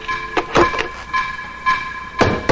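A man bangs heavily on a front door, a handful of loud, uneven thumps spread across a couple of seconds, with a faint steady tonal hum in the background and no voices.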